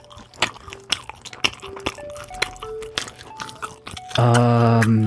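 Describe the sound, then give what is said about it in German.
Wet chewing of a sausage with irregular soft crunches and smacks for about four seconds, then a loud sustained buzzing tone cuts in at the end. “Soll ich nochmal kauen? Ich hab noch was übergelassen.”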